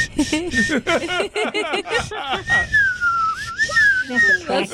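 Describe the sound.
Someone whistles a clear, sustained tone that wavers gently up and down for a couple of seconds, following a burst of lively talk and laughter that continues faintly underneath.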